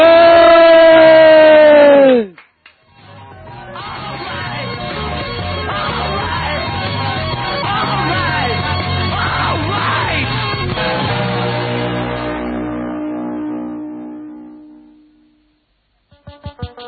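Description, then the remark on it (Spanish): A group of people lets out a loud, sustained shout together after a count of three, a dense roar of many voices that holds for several seconds before gradually trailing off, preceded by a brief falling vocal tone. “Tenemos que pegar todos un grito, que aquí estamos palmando los pingüinillos y queremos dar un grito, pero que se oiga bien.”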